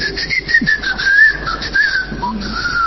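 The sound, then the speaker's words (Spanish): A person whistles a sustained, wavering tune as a signal call, at steady volume, the pitch sliding up and down across about three seconds, with faint background noise and no talking. “Esta cosa de tener un chiflido a modo de santo y seña suele ser una costumbre hija de”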